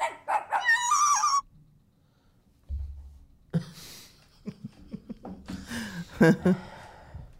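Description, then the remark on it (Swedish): A dog barks and yips in a quick run of bursts, falls silent for a couple of seconds, then more high-pitched yelps and scuffling noises follow. “Det kommer vara en hund som kommer låta i det här klippet, men det är inte det.”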